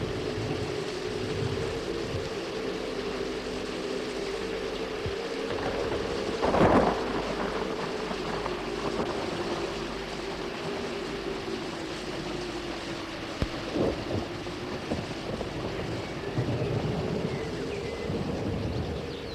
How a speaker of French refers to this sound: L'orage est fini, il s'en retourne.